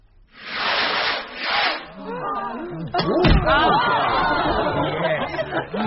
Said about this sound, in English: Oh, I do love fireworks. They make me feel like a child again. Such a wonderful way to round off the day.